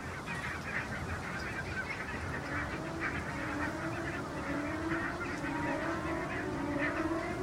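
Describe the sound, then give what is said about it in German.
A flock of greylag geese honks continuously as they take off, many loud, overlapping nasal calls over a steady rushing noise, with no voices. “Jetzt fliegen da die Graugänse auf.”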